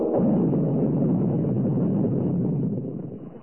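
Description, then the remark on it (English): A deep, roaring explosion sound effect representing the Big Bang rumbles loudly and steadily for about three seconds, then begins to fade away, with no voices over it. “and that was called the Big Bang.”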